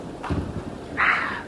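A storm outside a window in Amsterdam, heard through a telephone receiver held against the window pane: a low rumbling gust followed by a rushing, hissing burst of wind, muffled as if through glass, with no voices.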